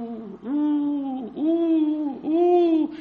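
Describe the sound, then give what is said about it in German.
A person imitates an eagle owl with three long, drawn-out hoots in a row, each a sustained, slightly arching vocal tone, fairly loud, with no other talking. “Du bist doch kein Uhu.”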